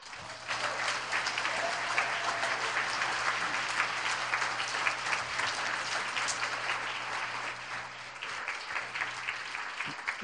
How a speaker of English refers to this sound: I just want you to hear their clapping, like, super proud of you guys.